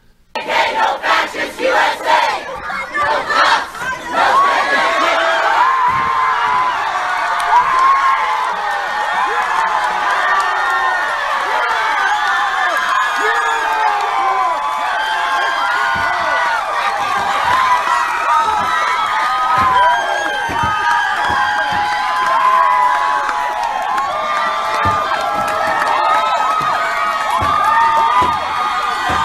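crowd screaming

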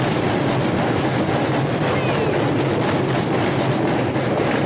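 train running on tracks

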